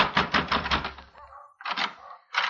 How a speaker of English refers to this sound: Sandy McQuill's address turned out to be a third-rate hotel, past the Frank Quarter and near the Hassan Bazaar. I took the steps up 2 flights and slammed at McQuill's door.